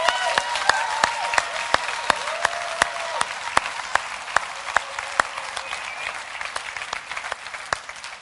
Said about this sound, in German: Ihr könnt noch mal klatschen, glaube ich.